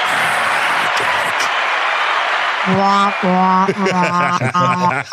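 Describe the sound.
An applause sound effect: a dense wash of clapping from a crowd fills the first few seconds, then tonal, voice-like cheering rises over the steady applause until the end.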